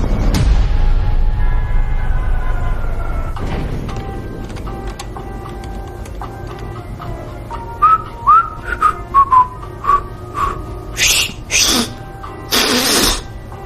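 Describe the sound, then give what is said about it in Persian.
A person whistles a short, halting tune of rising and falling notes, clear over a steady background hum, followed by a few loud noisy bursts. “قدیما بهتر سوت میزدم.”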